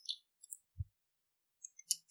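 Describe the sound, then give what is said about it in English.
A lighter clicking several times, with sharp, bright high-pitched ticks and one dull low thump in between, spread across about two seconds with a pause in the middle. No one speaks. “Quick click of that lighter for now. Just lighter ASMR.”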